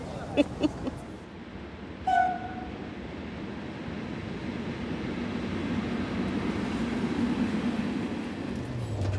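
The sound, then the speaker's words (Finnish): A busy railway station in Vienna hums with a steady low rumble of trains, a few sharp clanks early on and a brief tonal chime, with faint voices mixed into the background. “Viini, rautatieasema ja etsitään laituria 7.”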